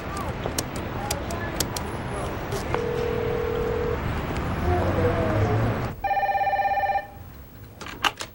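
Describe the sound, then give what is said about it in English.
Electronic tones from a public telephone on the street as a man punches in a phone number, against noisy outdoor street ambience: a few steady beeps, then a louder, longer buzzing tone from the handset, with some clicks near the end. “He chews the pills as he punches in a phone number.”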